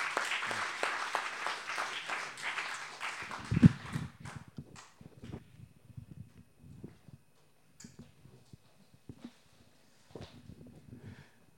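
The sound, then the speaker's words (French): An audience claps to welcome a missionary from Youth With A Mission (Jeunesse en Mission), in a thick, steady burst for about four seconds, then the applause thins out into scattered, uneven claps that trail off toward the end. “Alors Johan, vraiment, on t'accueille, c'est beaucoup de temps déjà vu, on peut l'applaudir et...”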